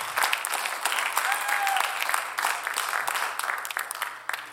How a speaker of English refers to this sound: To your guests, we welcome you. We're so delighted that you're here. We love you. Welcome home. Amen. You are. That's it. Give them a hand clap of welcome.